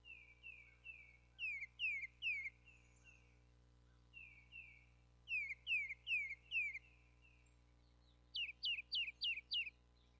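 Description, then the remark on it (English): A tufted titmouse sings three bouts of clear, repeated two-note whistled phrases, each slurring downward. The last series is higher and sharper, over a faint steady low hum. “We're listening to a tufted titmouse.”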